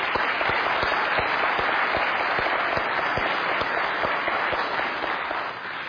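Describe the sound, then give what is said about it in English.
A crowd applauds the CBC team steadily, many hands clapping in a dense, loud wash that holds for about six seconds before easing slightly at the end. No one speaks over it. “But just a moment, just can we applaud just the team that is CBC while we're here?”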